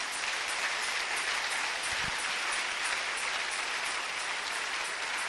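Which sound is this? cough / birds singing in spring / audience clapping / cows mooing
audience clapping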